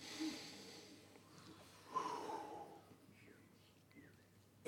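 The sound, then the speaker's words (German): A slow, deep breath drawn in and let out, airy and soft, with a faint breathy rustle trailing off. “So vielleicht müssen wir zuerst tief atmen.”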